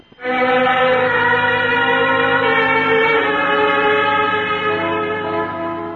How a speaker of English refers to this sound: When I felt that train start and knew I was on my way home, it felt so wonderful.